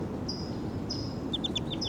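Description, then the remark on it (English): A wild bird calls in the distance with thin, high whistled notes, two drawn-out tones followed by a quick run of short chirps, faint over a steady low rumble of background noise. “And the wild bird's calling in the back.”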